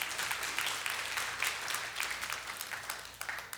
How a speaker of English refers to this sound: Yeah, clap for that.